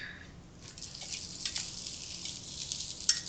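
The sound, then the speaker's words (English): A soft, steady sizzling hiss, or the crinkle of ice, full of tiny crackles and pops, with one sharper snap near the end. No voices are heard. “I hear sizzling. Yeah, there's sizzling or, like, crinkling ice.”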